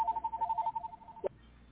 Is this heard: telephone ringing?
yes